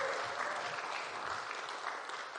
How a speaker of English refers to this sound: Round of applause. We're a warm crowd, aren't we?